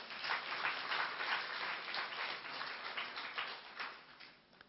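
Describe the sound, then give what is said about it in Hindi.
An audience of people from Dehradun claps steadily for several seconds, a dense, continuous patter of many hands that tapers off slightly toward the end, with no voices over it. “ताली बजाना जरा।”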